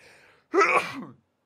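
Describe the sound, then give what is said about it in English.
A single loud sneeze: a quiet intake of breath, then a sharp, breathy burst that trails off over about half a second. “Hold on, I gotta sneeze.”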